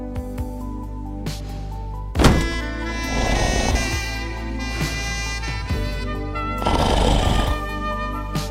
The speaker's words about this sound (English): Oh, man. What just happened? At that time, I was talking through one of my own snores. That's a talent I have.